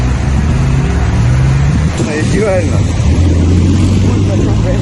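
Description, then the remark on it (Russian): A steady, loud engine drone and road rumble fill the whole recording, like riding inside a moving car on a humanitarian aid trip to Donetsk, with a muffled voice briefly audible over the noise midway. “Ну, в общем, вот эта замечательная машина доехала до Донецка.”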